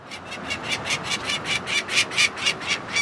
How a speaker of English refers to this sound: On top of a dorm at Boston University, you can get a good view of the Charles River, the traffic down below, and two anxious adult peregrine falcons circling overhead. They're screeching